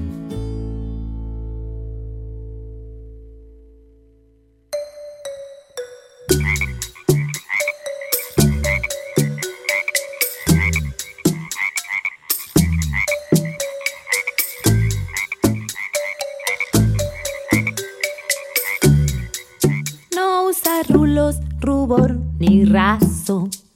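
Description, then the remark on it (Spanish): A frog croaks over and over in a steady, rapid rhythm, loud, after a low humming tone fades out at the start. No voices are heard. “Es una reina que ríe y croa con este ritmo, cri, cri, cri, cri.”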